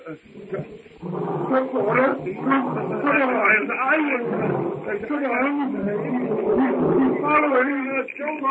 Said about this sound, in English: Numa's roar carries to Tarzan as he sits on a low-hanging branch watching the hut. It's the roar of the king beast as he crouches, tawny belly hugging the ground before the steely muscles propel him in terrific force upon his helpless prey.